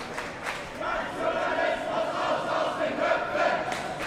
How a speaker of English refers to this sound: A few feet away from where Max and I are standing, protesters are shouting